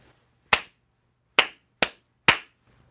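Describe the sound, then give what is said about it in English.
Four sharp hand claps ring out at uneven intervals, each with a crisp snap and a brief decay, over a faint low hum with no talking; the claps are made to sync up two recordings. “I'm going to have two recordings and I'm going to sync them up by doing a clap here.”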